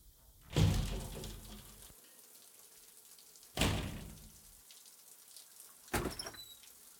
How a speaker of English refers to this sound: Here, I'm gonna get in the shower and you just open the door.